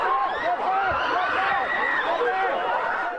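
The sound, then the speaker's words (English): A dense, loud crowd of overlapping voices shouts and calls out steadily as police in Boston disperse protesters gathered in front of the District 4 police station, at a protest over the death of a black man during an arrest in Minneapolis, with no pause in the uproar. “That's the sound as police tried to disperse a crowd that had gathered in front of the city's District 4 police station.”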